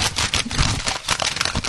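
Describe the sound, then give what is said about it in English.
Loud crinkling and rustling of newspaper pages being turned while someone reads, a dense crackle with sharper bursts throughout and no voices. “When you're reading a paper, it's like this is what it sounds like.”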